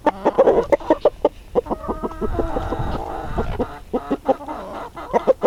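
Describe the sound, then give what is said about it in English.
Several rescued chickens, a small flock living in Norfolk, cluck in short, repeated bursts, with a busier stretch of overlapping clucks and squawks in the middle before the choppy clucking resumes. “Now to our final piece, The Secret Diary of Flora and Friends, rescued chickens now living at a secret Norfolk address, as imagined by Dominic Castle.”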